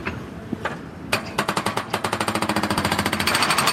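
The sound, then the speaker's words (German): An excavator breaks apart the tall stone chimney of the Warmbechli cooperative's building stone by stone: after a few scattered knocks, a rapid, steady train of loud, sharp hammering blows rattles on without pause, with no voices. “Der Bagger zerlegt noch immer Stein um Stein den hohen Kamin.”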